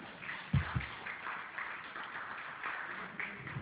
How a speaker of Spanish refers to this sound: Un aplauso a este poema antiguo.